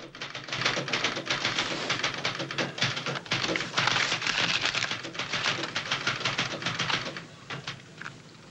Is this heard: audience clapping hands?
no